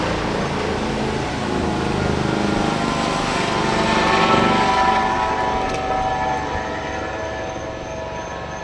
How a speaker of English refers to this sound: Freaking helicopter. But that was perfect. Because that is an illustration of ugly noise. And really, ugliness.